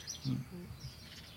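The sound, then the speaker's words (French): A turtle dove coos softly, a couple of low purring notes, while faint higher chirps from other birds drift in the background of a quiet outdoor scene. “Alors ça, c'est quoi? Tourterelle. Ah, le c'est une tourterelle.”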